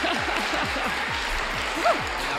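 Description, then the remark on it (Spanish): An audience applauds in a steady, dense wash of clapping that holds an even loudness throughout, with faint murmuring mixed underneath. “Venga, pues un aplauso a Belén, que le llegue.”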